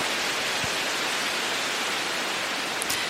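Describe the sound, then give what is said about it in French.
A rain stick tipped over, its beads pouring down in a steady, dense hiss of rattling that sounds like rainfall, continuous for about three seconds with no talking. “Un bâton de pluie ? Mais qu'est-ce donc ? C'est ça, c'est comme pluie.”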